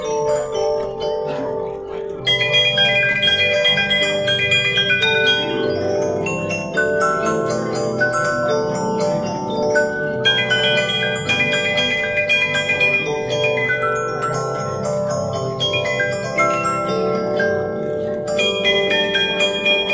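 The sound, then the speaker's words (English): A comb music box, its star wheel plucking the metal comb, plays Jingle Bells as a steady, bright tune, its plucked metallic notes ringing and overlapping with long shimmering decays, fairly loud throughout. “they push a little star wheel right here, and the star wheel then plucks the comb, and the comb is what makes the sound. So, would you like to hear it play?”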